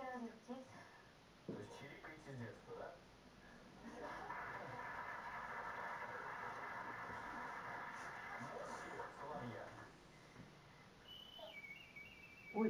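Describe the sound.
A female performer mimics birdsong with a sustained, warbling whistle-like voice for several seconds, with other people talking before it and a brief high chirp near the end.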